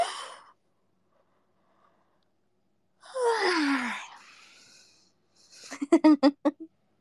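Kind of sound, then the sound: human body sound, a person yawning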